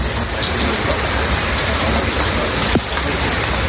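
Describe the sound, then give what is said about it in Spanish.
Heavy rain pours down steadily in Madrid in a dense, unbroken hiss, with a brief sharper splash or thud near the end; no one speaks over the continuous downpour. “La lluvia se la echaba de menos por la sequía que tenemos en los campos madrileños, necesaria por tanto, pero también incómoda para muchos que han tenido que tirar de paraguas a primera hora de la mañana, y fastidiosa como siempre a nivel de tráfico.”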